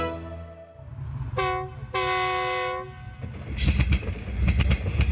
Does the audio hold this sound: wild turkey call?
no